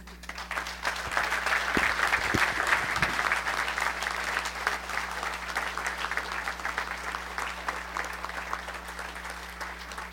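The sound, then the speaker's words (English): An audience claps steadily for about ten seconds after a speech by a panelist at a public meeting, a dense wash of many hands that stays loud throughout and eases only slightly toward the end, with no talking over it. “In order to move things a little bit faster, if we could refrain from clapping until after all the panelists have spoken.”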